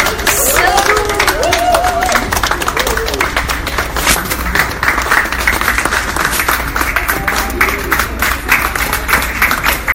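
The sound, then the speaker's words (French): Sustained applause from a crowd welcoming bargain-hunting shoppers into a store the day after Christmas, dense and steady for the whole stretch, with scattered cheers and excited voices rising through the clapping. “Donc, des applaudissements.”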